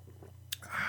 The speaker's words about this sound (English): Let me take a sip of my wine. I'll do that.